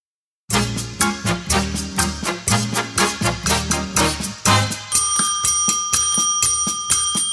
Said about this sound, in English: I can reach my bell, so always yeah.